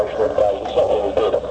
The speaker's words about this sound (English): The interference you can hear in the background, you might think it's interference, it's not actually, it's a talk back in the studio, between the studio and the transmitter room upstairs.